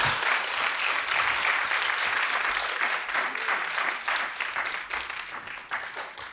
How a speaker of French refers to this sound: Eh bien, on vous remercie beaucoup. Merci. Et on vous applaudit très fort.